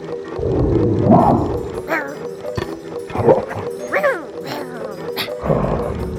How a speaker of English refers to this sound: I don't trust puppies that are as big as bears. Do you hear them? There is bite with that bark.